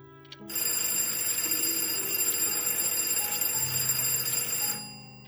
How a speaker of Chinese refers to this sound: 杨雪家中的电话忽然嘟嘟地响了起来。